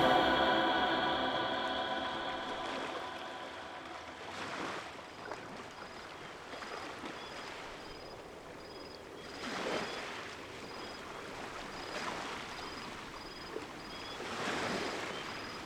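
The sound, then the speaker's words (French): Ocean waves wash onto a beach in slow, rhythmic surges, each swell rising into a broad hiss before receding. A steady tone and faint harmonic hum sit underneath, with no voices. “Toujours sur la plage, bercé par la rythmique des vagues.”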